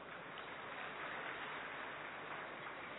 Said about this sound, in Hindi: अरे वाह, फिर तो अपने लिए एक बार ताली बजा ले।